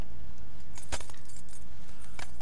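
A bunch of keys jangles in a few bright metallic bursts, a sharp shake near the start and lighter rattles after, with no one speaking.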